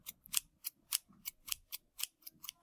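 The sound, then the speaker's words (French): Scissors snip hair in a quick, steady series of about nine crisp cuts, each a sharp metallic slice spaced roughly a third of a second apart, with no voices. “La fille partit et revint avec ses ciseaux et son peigne.”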